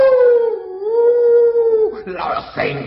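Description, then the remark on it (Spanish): A voice imitates a wolf's howl: one long, steady, loud howl held for about two seconds, then breaking into brief growly vocal sounds at the end. “¡Soy el lobo y me los comeré!”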